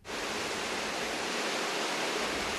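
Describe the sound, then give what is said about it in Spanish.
A steady, dense, fairly loud roar of rushing water: the waters of the Butrón estuary turning the Errotabarri watermill, a 17th-century mill in Gamizfica where corn flour is produced. The sound is broad and unbroken, with no voices over it. “Las aguas de la ría de Butrón mueven el molino Errotabarri en Gamizfica, un molino del siglo XVII”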